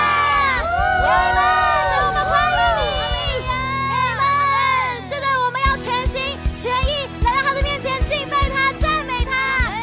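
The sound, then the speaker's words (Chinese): A large audience at a worship service cheers and shouts loudly and continuously to praise God after a count of three and a shout of hallelujah, many voices whooping and calling out together in a dense roar that barely lets up from start to finish. “所以当我们数到三的时候，给我们的神一个最大的欢呼，欢迎他，期待他今天在我们当中。”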